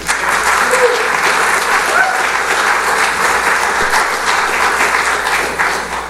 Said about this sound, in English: So I think they deserve a big round of applause.